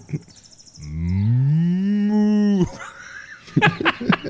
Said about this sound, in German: melkt wieder Kühe. Hörst du das?